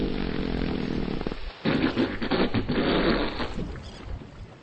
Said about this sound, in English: Do humpback whales communicate by farting? Yes, one will fart and another will fart back. Listen.